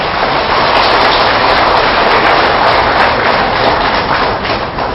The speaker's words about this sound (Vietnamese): Xin tất cả dâng cao tràng pháo tay để cam kết.